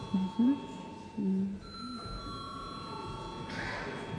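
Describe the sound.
A Latvian parliament voting bell rings in one steady, continuous electronic tone through the whole stretch, fairly faint, with brief murmured voices near the start, called before a vote on approving a judge of the Riga Regional Court.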